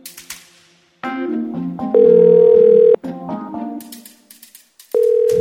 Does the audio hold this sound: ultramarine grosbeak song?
no